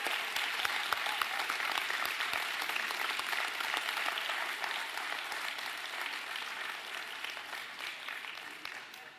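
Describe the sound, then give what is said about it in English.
A church audience applauds steadily for about nine seconds as kids' church is dismissed, a dense wash of many hands clapping that stays fairly even before easing slightly toward the end. “So with that said, with a round of applause, kids' church is dismissed.”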